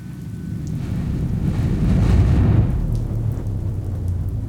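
Steady rain pours down while a deep roll of thunder swells in the middle and fades, the low rumble heavy under the constant hiss of falling water.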